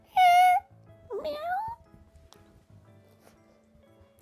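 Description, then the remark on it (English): A child's voice gives two meow-like cries, a flat high one followed by a rising, wavering one, imitating a cat, before quiet background noise. “I'm gonna guess that you might be a book cat that we've read about before.”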